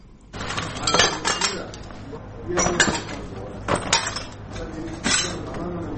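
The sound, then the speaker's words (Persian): Shards of broken glass clink and scrape as they are gathered up to repair rocket damage in a house in the second part of Khair Khana, Kabul, hit by a rocket on the morning of 1 Qaws, in several bursts of jangling over a low background hum, with faint voices murmuring. “پارچه های شیشه را جمع می کنند و می خواهند ویرانه های راکت را که صبح اول قوس به این خانه در حصه دوم خیرخانه به بار آورده ترمیم کنند”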